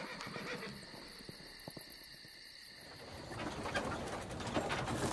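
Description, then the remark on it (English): Horses whinny and snort amid a busy outdoor clatter at night, with sharp knocks early on and a rising rush of noise as the horses are whipped and the wagon they pull sets off. “whipped the horses, and they took off into the night.”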